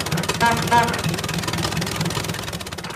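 A car engine runs steadily throughout as the car is driven through a village, a dense, rumbling drone with a fast, even pulsing, holding a fairly constant loudness for the whole stretch.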